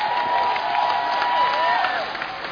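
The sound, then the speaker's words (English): A church audience claps and cheers for Jesus steadily, a dense wash of applause with sustained voices rising above it, including a long held shout that glides downward near the end. “Come on, clap for Jesus.”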